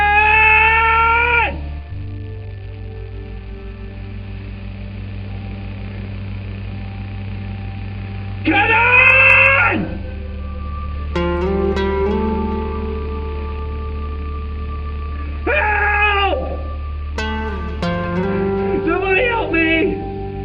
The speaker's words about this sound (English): I think these were genuine screams of terror.